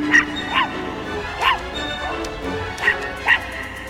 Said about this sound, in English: A small white pup presses a red button and is heard over a boat's loudspeakers.